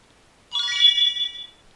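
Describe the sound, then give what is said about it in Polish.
A digital voice recorder's start-up tone: a single bright electronic chime lasting about a second, rich in high harmonics, with one high note lingering briefly before fading out, heard alone without speech. “Dyktafon zabrzęczał takim specyficznym dźwiękiem i powiedział nam, że pojemność baterii jest wysoka.”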